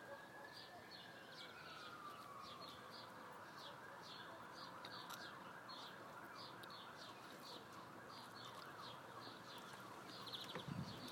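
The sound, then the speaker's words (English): Several emergency vehicle sirens wail faintly and steadily through a noisy outdoor background, while parakeets chirp repeatedly in short bursts over the top. “Lots of sirens, something must have happened.”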